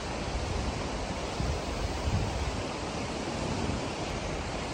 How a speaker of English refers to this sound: I'll tell you right now, nothing hits quite like an Icelandic waterfall